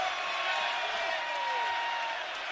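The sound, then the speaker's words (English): A basketball arena crowd in Cincinnati roars and cheers as the Bearcats lead BYU 50-44 after a 7-0 run and a BYU air-balled three, a dense, steady wall of noise that stays loud for the whole few seconds, with faint whistle-like tones rising through the din. “The crowd's going crazy.”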